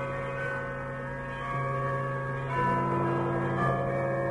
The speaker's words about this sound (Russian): Все городские колокола зазвонили сами собой.